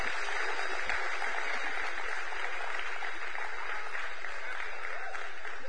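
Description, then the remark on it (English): A crowd applauds steadily, a dense wash of many hands clapping at an even, sustained loudness for several seconds with no voices standing out. “So, with a big round of applause, you're dismissed.”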